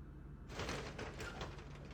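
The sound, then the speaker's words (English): A door swings shut with a soft, muffled thud and a brief rattle but never clicks into a latch, followed by light scraping and settling noises; the doors do not latch. “Oh, the doors don't actually latch.”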